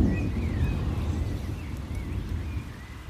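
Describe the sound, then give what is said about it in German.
Heavy rain pours in a dense, steady rush with a deep rumbling undertone, while faint thin chirps flicker above it now and then; people shelter from the downpour inside a church. “Wir schauern bestimmt eine Dreiviertelstunde in der Kirche und es regnet jetzt wirklich wie aus Eimern.”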